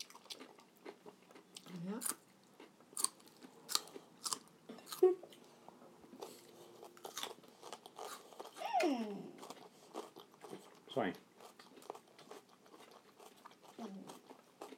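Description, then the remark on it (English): Crisp crunching of someone biting and chewing raw red pepper at dinner, with irregular bursts of sharp crunches over about fifteen seconds and a few faint vocal sounds in between. “When I'm crunching, it makes a noise.”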